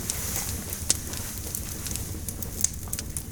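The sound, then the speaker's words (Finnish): A wood fire crackles in a fireplace: scattered sharp pops and snaps, a couple louder than the rest, over a steady low rumble and hiss, with no voices. “Panet vähän puuta lisää tuonne takkaan, niin”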